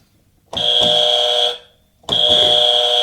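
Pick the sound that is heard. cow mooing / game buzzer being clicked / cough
game buzzer being clicked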